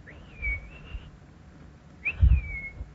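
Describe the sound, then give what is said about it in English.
A person whistles two clear, sliding notes imitating an eastern wood-pewee's call, each rising then gently wavering, separated by a short pause, moderately loud with low background rumble. “But the wood peewee goes more or less like this.”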